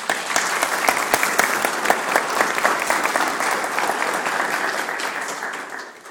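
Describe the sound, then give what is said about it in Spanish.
A crowd applauds steadily to welcome a speaker, a dense patter of many hands clapping at an even level for several seconds before tapering off slightly at the end. “Recibamos por favor con un fuerte aplauso”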